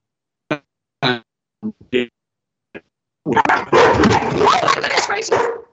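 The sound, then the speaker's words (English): Several sharp, separate barks ring out with short pauses between them, then a dense, continuous burst of overlapping barking and noisy commotion fills the last few seconds, fairly loud. “We have lots of dogs here, and they protect us.”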